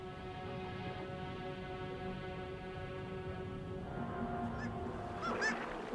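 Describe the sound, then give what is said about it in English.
A busy Arctic seabird colony of fulmars, guillemots, kittiwakes and ivory gulls drones with a dense, overlapping chorus of harsh calls, and sharper, louder squawks break out toward the end. “Arctic birds, fulmars, guillemots, kittiwakes, and ivory gulls survive on a diet rich in Arctic cod, while murres dive down as deep as 100 meters in search of fish and squid.”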